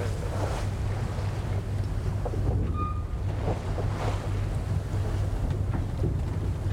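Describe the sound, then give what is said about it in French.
An oil tanker passing ahead at sea: a steady, low engine drone beneath constant wind and water noise, with a brief whistling tone about halfway through. No one speaks. “Ça, c'est un pétrolier devant.”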